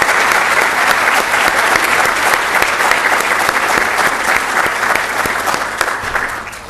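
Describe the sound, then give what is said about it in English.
An audience applauds to thank the event's sponsors in a loud, dense burst of clapping that holds steady for several seconds, then begins to taper slightly toward the end. “And I know some of these people are here, so please join me in a round of applause, thanking them for their support.”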